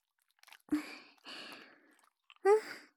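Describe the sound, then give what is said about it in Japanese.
Body soap being worked into a lather in the hands: a few wet squishing bursts, with a soft breathy sigh near the end. “こうして、ボディーソープで手の中をぬるぬるにして、 しっかり泡立ててから”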